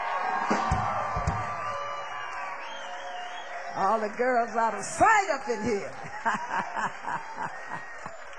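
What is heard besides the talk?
audience applause and cheering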